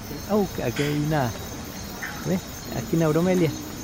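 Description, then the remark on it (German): Masked tree frogs call in a handful of short, nasal, harmonic bursts spread across a few seconds, set against a steady high buzzing chorus of insects in the background. “Das sind unsere Maskenlaubfrösche.”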